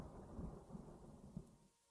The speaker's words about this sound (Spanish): Por un momento oyó la trepidación de los truenos remotos.